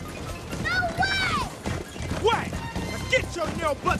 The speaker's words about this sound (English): The horse is gaining on the train.